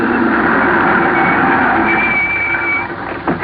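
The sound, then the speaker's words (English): A car without lights roars by at night, loud, a steady rush of engine and road noise with a faint whine riding on top, fading slightly at the end. No one speaks. “Then a car without lights came rushing at me.”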